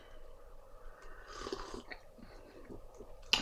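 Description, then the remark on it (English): A soft slurping sip of Barry's tea from a mug, with an airy intake of breath, followed by quiet mouth sounds and a faint clink of the mug at the end, no talking. “Let me get a sip of my tea in my new Greer Ferris mug.”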